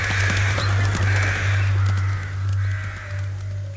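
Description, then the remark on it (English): A flock of rooks caws harshly and repeatedly, several birds overlapping in a steady, noisy chorus over a low droning hum. No one speaks. “On some signal, which human observers have been unable to identify, either the birds take wing as one, leaving the lone rook alone in the field, or again, as one, they fall on the bird and peck it to death.”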